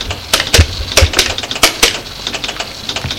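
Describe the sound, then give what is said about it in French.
A telephone number being dialed to call the president of the group: a run of sharp mechanical clicks at an uneven pace, some louder than others, with no voices. “Prend son téléphone. Fait un numéro.”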